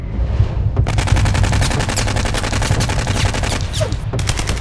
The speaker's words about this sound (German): Unmittelbar vor ihnen ratterte ein Maschinengewehr los. Gewehrkugeln pfiffen an ihnen vorbei, Laub und Äste fielen zu Boden